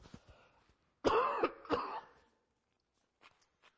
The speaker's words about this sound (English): Everyone clear your throat. Sorry.